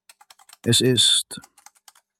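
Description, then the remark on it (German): A woman working at a dental practice types on a computer keyboard in the afternoon. Quick, light clicks tap along in an uneven rhythm, briefly interrupted by a loud, short vocal sound before the keystrokes resume. “lächelt, telefoniert, tippt, organisiert.”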